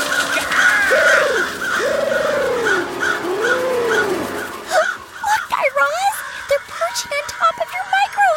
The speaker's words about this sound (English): Wait, Guy Raz, over there, look! What? A flock of crows!